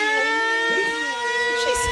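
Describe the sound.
A steady, droning siren wails continuously with a slight wavering pitch, loud and close, while brief murmurs of voices break in underneath.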